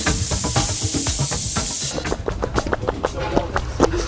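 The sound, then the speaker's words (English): Someone imitates with their mouth the spurting of a petrol engine converted into a water pump: a steady breathy hiss, then a fast, even run of sharp puffing spurts, fairly loud throughout. “You can always be relied upon to be making stupid noises. Ah, no, this is a highly technical noise.”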